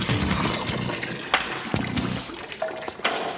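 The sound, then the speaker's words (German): Watery spraying and splashing from a water pistol filled with salt water, with a few sharp squirts cutting through a steady wet hiss. Fairly loud, with no voices. “Mit einer Wasserpistole? Ich hab auf dem Zimmer schon Salz reingepackt.”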